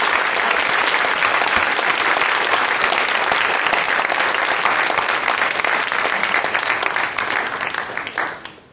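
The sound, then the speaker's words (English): A crowd claps steadily and loudly for several seconds, a dense crackling wash of many hands, before the applause tapers off at the end. “Thank you all of you for your supportive applause.”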